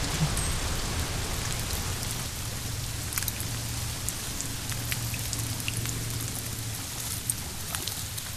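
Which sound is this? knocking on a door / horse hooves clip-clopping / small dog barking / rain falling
rain falling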